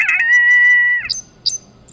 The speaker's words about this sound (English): You can press buttons and hear the prairie.